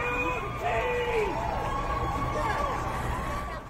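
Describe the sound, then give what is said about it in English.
A large outdoor crowd outside the court in New York roars and cheers continuously as a guilty verdict is read out, a dense wash of many voices shouting at once, loud and sustained throughout with individual shouts rising above the din. “I can hear and the cheering. Tell us what's happening. There is an eruption from the”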